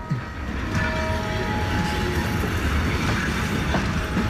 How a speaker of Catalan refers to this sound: Continua el tren.